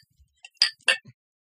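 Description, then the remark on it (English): Glasses clink together in a toast: two bright, ringing taps about a third of a second apart, with a few softer clicks around them and no talking. “Let's get some clink on.”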